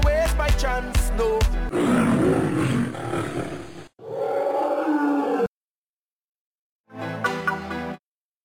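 A Radio de Leon station jingle: a few punchy musical stabs give way to a loud, rumbling lion roar in two long bursts, then a short pause and a brief bright closing phrase.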